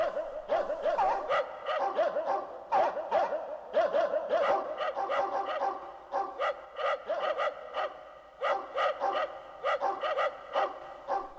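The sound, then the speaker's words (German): Several dogs bark as they approach, a rapid, overlapping chorus of sharp yaps coming in quick bursts with brief gaps, fairly loud and steady throughout, with no one speaking. “Der Fuchs sah die Hunde immer näher kommen.”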